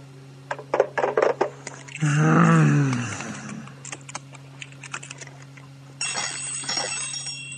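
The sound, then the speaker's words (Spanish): Quick keyboard typing clicks, then a brief warbling tone, and after a quiet stretch a telephone starts ringing with a bright, buzzy bell near the end. No one speaks. “Este teléfono.”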